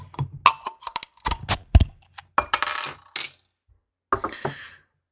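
Metallic clicks and glassy clinks as a beer, an oatmeal stout brewed with coffee at 7.5% ABV, is handled and cracked open, followed by a short hissing release of gas and a brief fizzy rush, with no talking.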